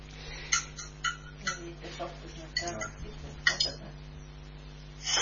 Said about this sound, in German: irgendwer scheppert da mit Besteck im Hintergrund. Ja, ja, bitte wer da mit Besteck klimpert, den Lautsprecher abschalten.